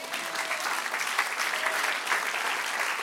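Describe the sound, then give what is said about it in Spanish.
An audience claps in steady, dense applause, a continuous wash of many hands at an even level for a few seconds, with no voices standing out. “Aleluya, dale un aplauso.”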